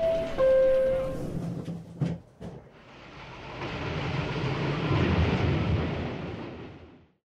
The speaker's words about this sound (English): This is the air train to JFK Airport. Please watch the closing doors.